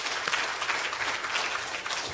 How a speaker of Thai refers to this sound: เราตบมือให้พระเจ้าดีไหมครับ